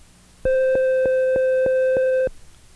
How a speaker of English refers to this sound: When the end of a side is reached while fast-forwarding, you'll hear this tone.